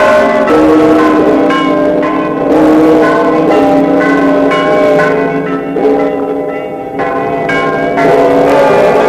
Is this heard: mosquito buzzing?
no